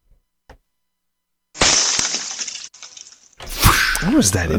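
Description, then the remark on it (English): After a small tap, a loud shattering crash of a meteorite breaking on impact bursts out, a bright, hissing spray of breaking debris lasting a couple of seconds, followed by more clattering with a voice rising over it. “One of our listeners texted in the shattering meteorite sound could be your okay, a stat of the show sound effect.”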